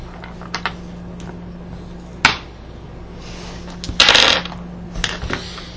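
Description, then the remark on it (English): Dice clatter across a hard tabletop: a few light clicks, a sharp knock, then a brief rattling tumble, with scattered smaller taps afterward, fairly quiet against a steady low hum. “Didn't we tell you about using those dice?”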